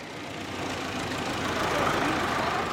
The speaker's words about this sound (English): A large truck arrives bringing clean water for refugees.